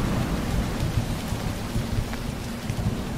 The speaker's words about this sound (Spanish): Y también el retumbo de los truenos largos, amenazadores, precedidos de relámpagos.